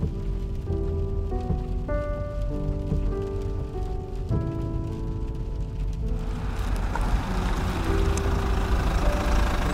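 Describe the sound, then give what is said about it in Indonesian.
Steady rain patters on a hard surface at night throughout, a dense hiss with soft tonal notes in the first half, the downpour growing fuller near the end. “Jangan turun di sini. Ini masih hujan.”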